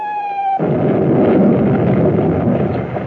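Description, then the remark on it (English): A steady high whistling tone breaks off into a loud bomb explosion, followed by a continuous heavy roar and crackling rumble that lasts to the end, with no voices; bombs bursting in the Japanese air attack on Pearl Harbor, December 7, 1941. “The lives of hundreds of millions were changed as surely as those bombs burst.”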